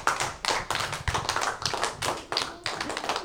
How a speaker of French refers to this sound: Fait bah bravo, bravo, on peut s'applaudir.